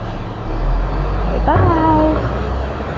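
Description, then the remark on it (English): A big truck's low, steady engine rumble fills the scene, with a brief rising tonal squeal partway through as the vehicle moves off, its drone holding fairly strong throughout. “See the big truck? Whoa, look at him go.”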